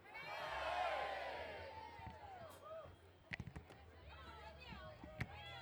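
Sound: crowd cheering hooray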